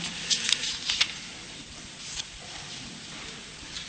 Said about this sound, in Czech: Chvílečku, mě se v tom lepší listuje, než bych měl jiný záměr. Je to takové menší do ruky, teda ten Petrův překlad.